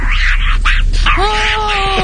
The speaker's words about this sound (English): Listen to the joy in the monkey's voice when she tries to get the diapers back on.